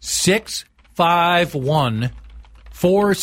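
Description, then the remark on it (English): A voice imitates fast typing on a computer keyboard, with short, pitched vocal bursts and clicky sounds in quick, uneven succession, fairly loud. “Typing feverishly.”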